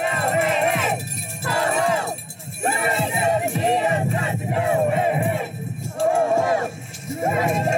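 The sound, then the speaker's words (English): Protesters outside a jail chant and shout together in loud, rhythmic bursts while blocking a bus transferring a detainee into ICE custody, voices rising and falling in repeated phrases with brief dips between them. “he was transferred into ICE custody on January 17th as protesters chanted outside the jail and blocked the bus. You can hear them in this video shared on Facebook.”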